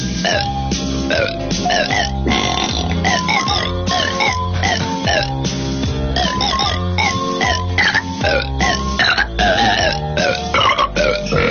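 A string of loud burps shaped into a recognizable Christmas carol melody, the belches rising and falling in pitch over steady musical backing for the whole stretch, from a parody Christmas album advertised as Oprah Winfrey burping the Christmas classics.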